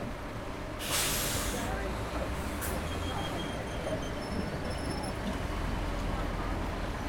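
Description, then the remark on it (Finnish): Steady low engine rumble of a bus ride from the Funchal seafront toward the southwest coast, with two sharp hissing bursts like air brakes early on and faint high whines over the continuous drone. “Funchalin rantakadulta löydän oikean bussin, jolla lähden kohti lounaisrannikkoa.”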